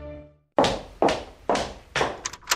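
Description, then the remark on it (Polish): A door sound effect: four heavy, evenly spaced, loud wooden thuds, followed by a quick flurry of lighter clicks and taps, with no voices. “Skoro otwarliśmy drzwi, zobaczmy, co też znajdziemy w środku.”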